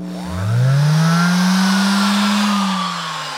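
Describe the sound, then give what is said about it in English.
A hand sander used by a custom guitar builder revs up from a low growl to a steady, throaty hum, holding its pitch loudly for a few seconds before easing off slightly at the end. “This is the throatier, put it in musical terms, hand sander.”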